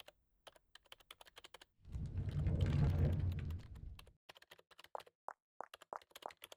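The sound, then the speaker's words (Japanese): Crisp keystrokes tapping on a computer keyboard in an office late in the day, as someone preparing documents for a client works late, in quick, uneven bursts, interrupted midway by a couple of seconds of louder, low rumbling noise before the typing resumes. “それに、キーボードの音。まだ誰か残ってるのかしら？”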